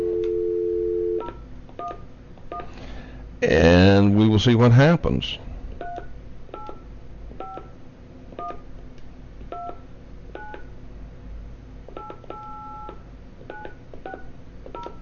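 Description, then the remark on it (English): A steady dial tone gives way to a man speaking briefly, then a long run of short touch-tone beeps pressed one after another at an uneven pace, clear; a call being dialed again on a different phone system after the previous call could not be completed. “All right, let's try on a different phone system.”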